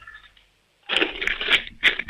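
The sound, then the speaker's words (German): A piggy bank full of coins is shaken hard after a short quiet moment, giving a loud, bright jangling rattle in quick rhythmic bursts that continue to the end. “Dann lauf mal los, ich möchte die Sparbüchse hören. Schüttel die mal richtig.”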